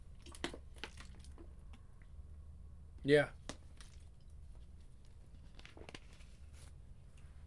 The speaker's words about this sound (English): I actually need some water. Hold on. Guess I can drink this.